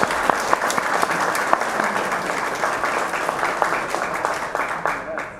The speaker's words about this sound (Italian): Quindi chiederei un applauso per il segretario comunale.